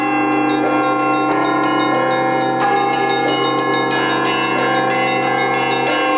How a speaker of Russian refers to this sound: Под умелым управлением мастеров 14 колоколов звонницы своим многоголосием рождали церковные звоны, многие из которых дошли до нас из глубины веков.